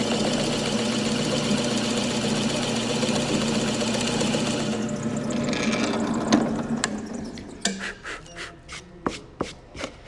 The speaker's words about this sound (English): If I'm working on a charcuterie board, I would take my piece of wood, and then to put a handle on the inside of it, or like a hanging hook, what we use is a drill press so that we can get a nice clean hole all the way through the wood.